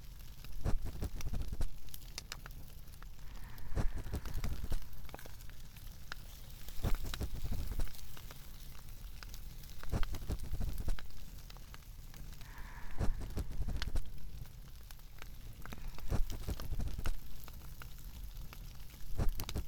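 crackling fireplace fire

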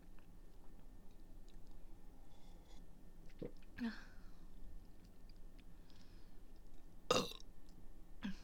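burping

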